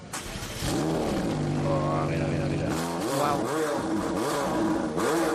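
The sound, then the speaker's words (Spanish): A 720-horsepower McLaren 720S sports car engine revs hard: a loud, sustained roar that holds steady, then climbs and dips through several rising and falling pitch sweeps as the throttle is blipped. “McLaren. McLaren 720S.”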